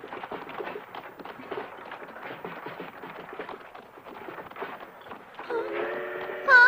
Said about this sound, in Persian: صدای قطاره، تو میتونی قطار رو ببینی خواهر؟